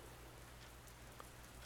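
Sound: rain falling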